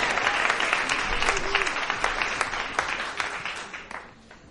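An audience applauds steadily, a dense wash of many hands clapping that holds for several seconds before tapering off toward the end.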